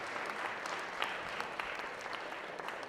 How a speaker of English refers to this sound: Why don't you give him a huge round of applause for being brave?